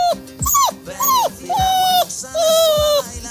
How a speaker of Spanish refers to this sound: Este es el perrito, ¿no? Sí. Se supone que es el perrito del departamento de felicidad, ¿no? El jefe del departamento de felicidad.